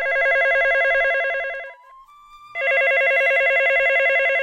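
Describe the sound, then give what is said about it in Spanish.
A telephone rings loudly in two long warbling bursts as a woman phones her friend, with a short pause between them where a faint steady tone briefly sounds, with no voices present. “Llamó por teléfono a su amiga Karina.”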